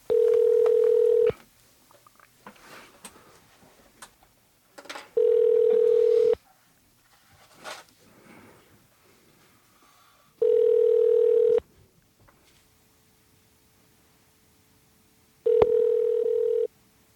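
telephone call ringing through

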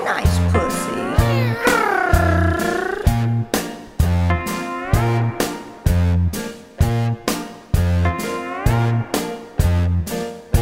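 cat meowing

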